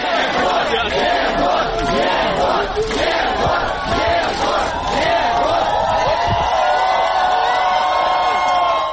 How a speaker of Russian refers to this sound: На выходе из суда ему устроили настоящую овацию.